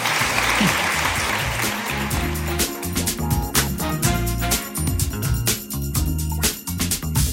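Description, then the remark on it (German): A crowd breaks into loud, sustained applause, dense clapping filling the room for several seconds with steady intensity, backed by a low rumble of music or crowd noise underneath. “Da darf geklatscht werden.”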